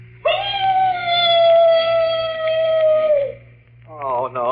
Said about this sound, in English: The mournful howl of a dog. You know, in every ghost story, there's always a dog howling someplace. Well, that ain't a real dog. It's just a standard ghost sound effect. You like this, see?